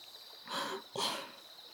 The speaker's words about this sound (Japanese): こうして泡がはじけると、あーっと甘く柔らかな香りがあたりに広がっていきますね。